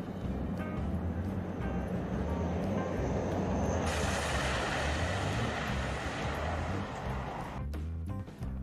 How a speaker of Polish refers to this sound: Zobaczcie na start tego samolotu na błotnistym pasie startowym.